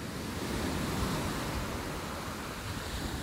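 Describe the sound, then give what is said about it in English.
Ocean waves wash steadily against the shore of Ghana's east coast in a continuous, soft rushing hiss, with no distinct individual breakers and no voices. “Blue waves lap lazily along the shores of Ghana's east coast.”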